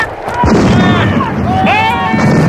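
A salvo of ship's cannons thunders in a dense, rumbling burst of heavy booms that stays loud throughout, with voices shouting over the roar, as a warship fires in stormy wind and hits the enemy ship's mainmast.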